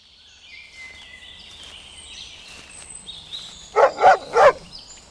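Three sharp dog barks in quick succession, following a stretch of birdsong and outdoor ambience, from a dog on a hike through Rock Creek Park on May 22, 2002.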